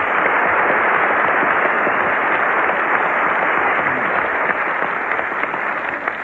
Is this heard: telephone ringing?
no